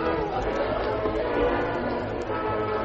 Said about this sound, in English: See how excited the crowd's getting.